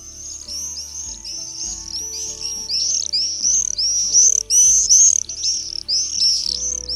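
Bird calls: a steady stream of rapid, high-pitched chirps and twitters that swell louder midway, with low sustained tones humming quietly underneath and no talking.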